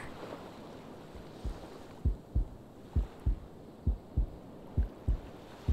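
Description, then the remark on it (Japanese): A muffled heartbeat in a person's chest thumps in steady paired beats, low and soft, repeating about once a second over a faint hiss, with no voices. “ねえ、せめてこの胸のドキドキを聞いて。”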